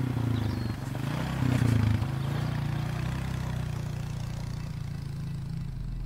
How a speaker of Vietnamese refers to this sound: Chiếc xe cà tàng thấy vậy mà chạy vẫn còn tốt lắm, tiếng máy nổ rền vang. Mấy người dân trong xã Trạm Phèn nghe tiếng xe máy thì chạy ra coi.